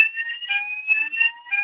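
A fire alarm, pulled by accident, blares continuously: a loud, steady electronic tone with pulsing overtones that holds without pause throughout, dominant, with no voices.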